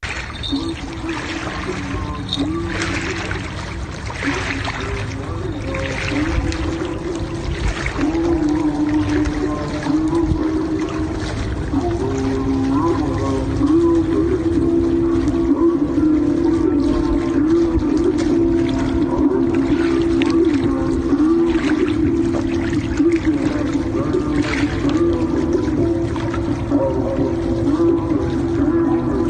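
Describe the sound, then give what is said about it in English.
Steady rushing water of the Delaware River in New Jersey fills the scene, overlaid by a continuous low, droning hum that wavers slightly in pitch, monotonous and unbroken for the whole stretch. “So like, okay, so I hear water and then weird like droning monotonous music.”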